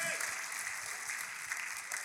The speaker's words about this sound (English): Let me hear you clap your hands a couple times for God. Thank you, Jesus.